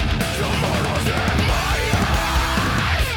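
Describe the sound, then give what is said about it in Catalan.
A loud, distorted rock song plays with a strained, screamed vocal riding over dense guitars and drums, the harsh cry wavering in pitch for a few seconds. “Aquest crit que tenim aquí.”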